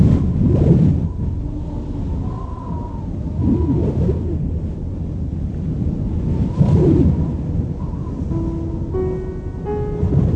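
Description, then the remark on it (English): Strong polar winter wind of up to 100 kilometers per hour howls and roars continuously, hurling ice and snow, swelling in loud gusts, with a few thin, high tonal calls briefly near the end; temperatures drop to minus 50 degrees. “Winds of up to 100 kilometers per hour hurl ice and snow about.”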